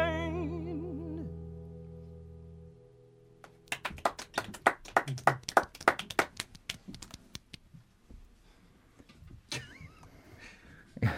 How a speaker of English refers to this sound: was an interesting little clap from... Golf clap. I'm trying to be respectful.